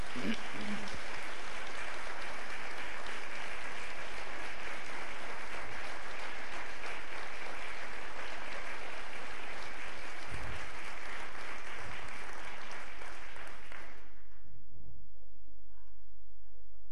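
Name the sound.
audience applause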